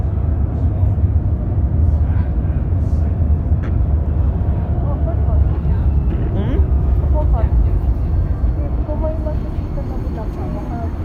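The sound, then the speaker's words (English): A train rumbles past, a heavy, steady low roar filling the whole stretch without letting up, with faint murmured voices buried underneath. “What train is that?”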